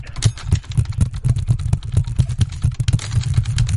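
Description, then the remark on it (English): Rapid, clattering keystrokes on an old-style computer keyboard while a slow system is being checked, a steady stream of sharp typewriter-like clicks, layered over a low, constant hum. “It sounds like a typewriter.”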